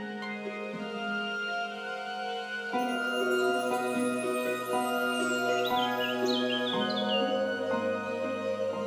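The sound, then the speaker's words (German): Birds chirp and twitter in short, bright phrases over a soft, sustained musical drone, the birdsong joining in after the first few seconds and continuing at a gentle, moderate level. “Meinst du, hier leben vielleicht noch andere Tiere, außer den Schmetterlingen und Vögeln, die du schon gesehen und gehört hast?”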